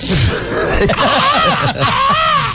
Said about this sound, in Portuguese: Oi, tem alguém gritando.